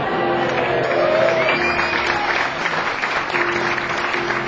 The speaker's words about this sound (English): Yes, you can applaud for my dad.